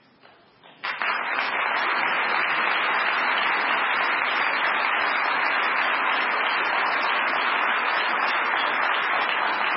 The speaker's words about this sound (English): And I wish they could be here to hear your applause.